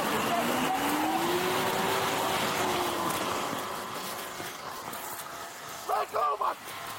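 A stolen truck driven by a suspect in Oklahoma City, Oklahoma: its engine revs up and holds a steady drone over loud rumbling road noise, fading slightly before a few short, sharp tonal bursts near the end.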